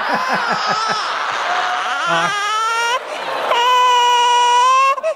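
baby crying

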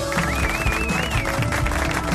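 applause

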